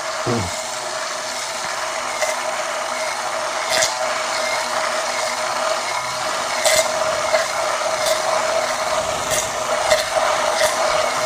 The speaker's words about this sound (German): Die wird dann aber ungefähr auf 200 Milliliter Öl, mit Öl auf 200 Milliliter auffüllen und dann mit einem Schneidstab langsam zu Beginn.